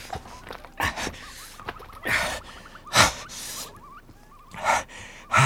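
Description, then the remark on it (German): A backpack is set down, followed by someone carefully crawling across the ground toward an edge: irregular scraping and rustling bursts with heavy breaths between them, and faint high squeaks in the background. “Ich leg meinen Rucksack ab und dann robbe ich mich vorsichtig zur Kante.”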